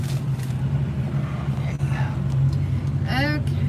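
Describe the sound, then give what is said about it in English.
A steady low engine hum and rumble drones throughout from an old car idling in a traffic line in hot weather with its air conditioning running to keep it cool, continuous, with brief voices rising faintly over it. “And there's some background noise because I'm trying to keep the car cool.”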